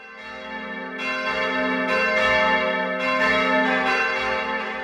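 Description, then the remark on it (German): A large church bell tolls steadily, calling the audience within earshot to gather. Each strike is about two seconds apart, its rich, humming resonance carrying over into the next. Fairly loud, with no voices. “Hier ruft eine Kirchenglocke ihre Gemeindemitglieder in Hörweite zur Versammlung.”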